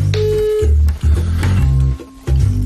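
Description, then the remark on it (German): A phone call tone sounds in steady electronic bursts with short gaps between them, loud, like a call being placed and ringing out, with no one speaking. “So, warte, Achtung, Anrufen kommt.”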